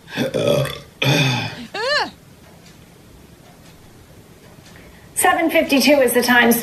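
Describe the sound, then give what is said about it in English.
A loud, drawn-out burp from a Fox 23 morning traffic reporter in Tulsa, Oklahoma, during his live report on I-44, erupts in a couple of bursts, followed by a pause and then a voice speaking. “No, he had to like burp or belch.”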